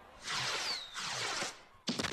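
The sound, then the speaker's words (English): Fireworks go off in quick succession over the downtown sky at Segra Stadium after a Friday home baseball game: two long crackling, hissing bursts with a faint whistle, then a sharp, loud bang that breaks into crackles. No voices are heard. “After every Friday home game, the Woodpeckers will light up the downtown sky with fireworks”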